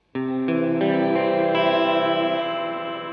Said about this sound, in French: Et donc, le fameux petit plus de la Otone, c'est le shimmer. Donc, c'est ce petit bouton au milieu qui, quand je l'appuie, rajoute au son l'octave supérieure réverbérée.